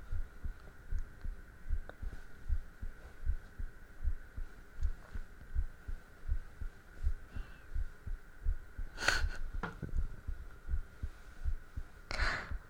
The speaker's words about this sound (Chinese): 所以说，我那时候每次见到你心跳那么快，到底是喜欢你还是因为紧张啊？